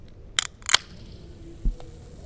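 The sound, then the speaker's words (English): A can of Coca-Cola is cracked open with two sharp metallic clicks, followed by a faint, brief fizzing hiss of carbon dioxide that fades quickly, then a single soft low thump. No one speaks. “I can hear that fizz. The fizz is carbon dioxide.”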